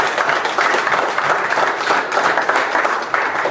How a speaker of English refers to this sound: These are the men that have been in my life. Give these men a hand of applause.